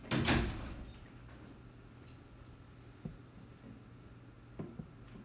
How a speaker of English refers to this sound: Just close the door.